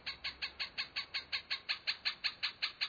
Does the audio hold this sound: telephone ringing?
no